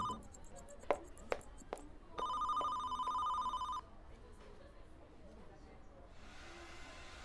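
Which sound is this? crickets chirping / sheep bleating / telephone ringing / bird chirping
telephone ringing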